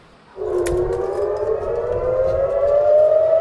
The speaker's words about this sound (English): The sirens are all too routine outside Sheba Hospital. As is outgoing missile defense, hunting incoming Iranian missiles.